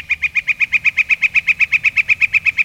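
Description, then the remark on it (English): A northern flicker's call: a long, steady series of loud, evenly spaced high notes, about eight per second, rattling on without a break and with no talking. “And there's no woodpecker in North America that creates more of those large cavities than the northern flicker.”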